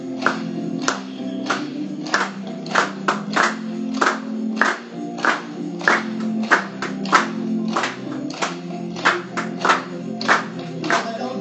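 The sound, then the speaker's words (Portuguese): A church audience claps hands together for the Lord during a worship song about old-time religion, in a steady, rhythmic beat, about two sharp claps per second, over a sustained low musical hum that continues underneath throughout. “Vamos batendo palmas para ele.”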